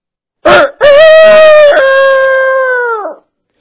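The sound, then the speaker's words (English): A single loud rooster crow from atop a barn at sunrise: a short opening note, then a long sustained cry that holds steady before dropping off at the end. No talking. “And the rooster crows again, and Peter thinks back.”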